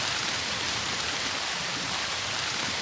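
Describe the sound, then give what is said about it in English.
Steady rain falls outdoors at an ancient tomb site, a dense, continuous hiss of drops spattering on surfaces, even in level throughout with no voices. “Well, when the rain lessens a little bit, we'll have a wander over to the tomb itself, I think.”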